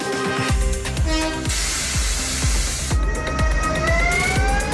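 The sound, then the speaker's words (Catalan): A train, one of the first to run through Granollers after train service resumed, rolls past with a steady rhythmic clatter of wheels over rail joints, a loud burst of hissing air midway, and faint high metallic squeals throughout. “El que sentiu és un dels primers trens que han passat per Granollers”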